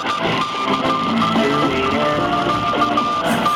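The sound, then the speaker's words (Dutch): Beeping tones come through a shortwave radio, a steady high whistle and shifting lower pips riding on dense, hissing static that never lets up. No one speaks. “Ruis? Nee, maar... Piepjes.”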